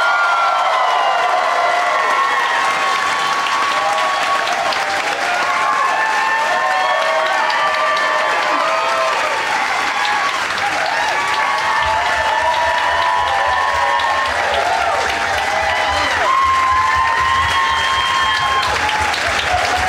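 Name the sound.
audience applause and cheering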